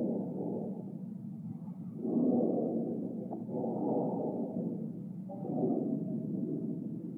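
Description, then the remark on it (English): A deep, continuous rumble of approaching thunder from a storm outside in Montana rolls on for several seconds, swelling louder in slow waves before easing back, with no voices over it. “Sounds like we're going to get a storm out there.”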